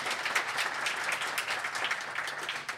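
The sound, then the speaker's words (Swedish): A crowd applauds the invited guests for coming, many hands clapping in a dense, continuous patter of bright, crisp claps at an even loudness throughout, with no voices standing out. “Ja, en applåd kan de få, va, för att de kommer hit.”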